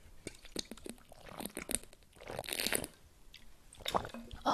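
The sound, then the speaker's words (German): Quiet drinking sounds as someone takes a sip of water: small wet clicks and gulps, a few swallows and a bit of liquid sloshing, heard alone with no talking. “Vorher Schluck Wasser.”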